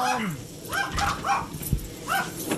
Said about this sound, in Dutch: De honden hebben er een beetje spanning bij, volgens mij. De honden storen een beetje. Die zal ik even naar binnen doen.